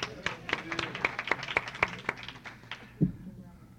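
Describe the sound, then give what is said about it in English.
Brief, sparse audience applause: a few sharp claps in a quick, fairly steady rhythm that thin out and stop after about three seconds, followed by a single dull thump. “I need some applause here, isn't it?”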